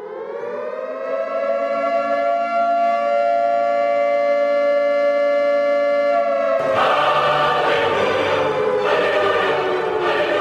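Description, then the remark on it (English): An air raid siren rises and holds a loud, steady wailing tone with rich harmonics, then shifts into a harsher, more chaotic blare midway through, continuing loudly to the end with no one speaking. “All right, so the air raid siren has gone off.”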